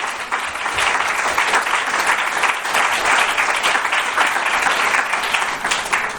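A steady burst of applause from a crowd, dense crackling clapping that holds loud and even for about six seconds with no voices over it.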